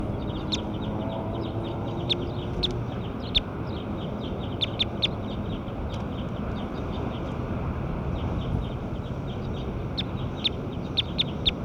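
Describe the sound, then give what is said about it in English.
Birds chirp repeatedly in quick, irregular bursts throughout, moderately loud, over a steady low rumbling background with no talking. “Bird 8.”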